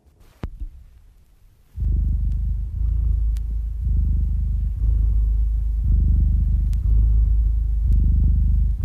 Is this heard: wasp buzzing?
no